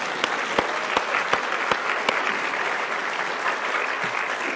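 An audience at Blacksburg Christian Fellowship claps in sustained, dense applause. A few sharper, louder claps stand out in a loose rhythm near the start before blending into a steady wash that fades slightly toward the end.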